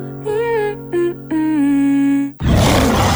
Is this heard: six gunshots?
no